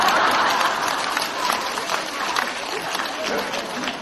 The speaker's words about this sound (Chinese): 刚刚还说你们很开悟的，鼓掌都不知道，